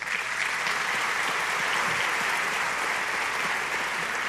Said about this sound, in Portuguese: Tive a oportunidade de fazer uma visita a convite do secretário Bruno, junto com a equipe da construção responsável pela reforma, para a qual eu peço uma salva de palmas.